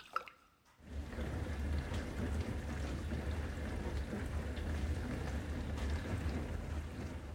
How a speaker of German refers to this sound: Oder auch hier diese Spülmaschine.